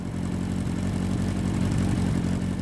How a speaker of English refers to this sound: The smell of freshly cut summer lawns, fragrant trees on mountain roads, and tires marking the asphalt are so connected with the roar of the bike beneath us that I can conjure them whenever I hear an engine rumble.